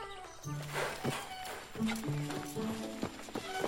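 A horse's hooves clip-clop on the ground in the woods in an uneven, unhurried rhythm, with steady tonal sounds humming underneath.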